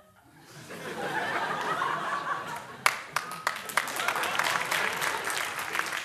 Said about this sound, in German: Ich brauche ihn nicht immer. Jetzt hätte ich ihn nicht braucht, aber dort, wo ich ihn will, dort brauche ich wirklich Applaus und es kann nicht genug sein.